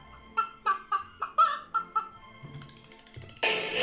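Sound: hen clucking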